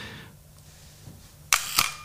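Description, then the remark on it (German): An SLR camera shutter fires with the camera back open at a slow exposure of about a quarter or half second: two crisp mechanical clacks, opening then closing about a quarter second apart, loud against otherwise quiet surroundings. “macht die Kamera hinten auf, geht auf eine relativ langsame Belichtungszeit von vielleicht einer Viertelsekunde oder einer halben Sekunde.”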